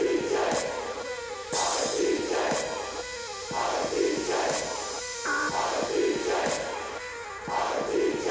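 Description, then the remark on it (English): A loud crowd cheers and roars continuously, with regular sharp beat-like hits about once a second cutting through the noise. “And the crowd goes, and the crowd goes, and the crowd goes, and the crowd goes.”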